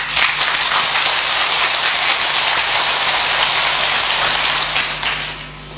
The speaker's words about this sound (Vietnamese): xin tất cả hãy dâng cao tràng pháo tay để cảm kết nó.